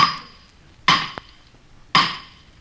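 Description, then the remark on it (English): Three sharp metallic hammer blows ring out as a hammer drives the Golden Spike, a railroad spike, where trains from the east and west are to meet, evenly spaced about a second apart, each clang bright with a short ringing decay, plus a small tap between the first two. “There goes the hammer.”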